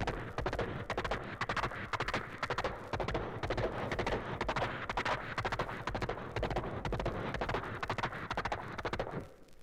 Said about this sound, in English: Now let's bring the horse up to a canter.